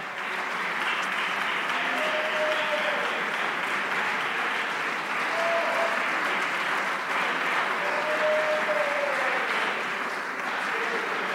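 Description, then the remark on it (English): An audience claps their hands to thank God in steady, dense applause that holds at an even loudness throughout, with a few faint tonal voices or shouts rising briefly above the clapping. “Come on, somebody clap your hands and thank God for it.”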